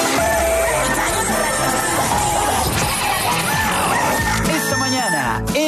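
The Radio Activa rooster crows loudly through a dense, cluttered mix of other noise, its harmonic call sounding over a constant wall of sound, with a crash-like burst near the end.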